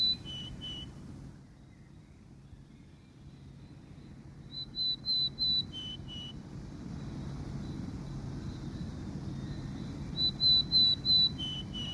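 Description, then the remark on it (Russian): Willow tit song: three phrases of clear, high piping whistles, four or five notes each with the final notes dipping lower, over a steady low rumble of wind. “Это синичка-пухляк.”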